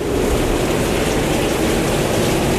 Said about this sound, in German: Ist schon wieder der Sturm. Das gibt's doch nicht. Es gibt so viele Geräusche, als ob wir Bezug nehmen wollen auf dieses olle Wetter da draußen.